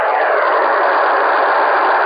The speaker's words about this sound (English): Pink is equilateral across the frequency spectrum. So for your listening enjoyment, here's 10 seconds of pink noise.